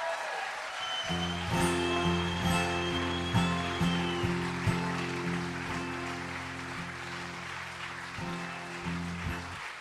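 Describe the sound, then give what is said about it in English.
A crowd applauds steadily for several seconds for the performer's father in Newport, Rhode Island, a dense wash of clapping that holds at an even level throughout, with a low sustained tone droning underneath. “So give him a round of applause, man.”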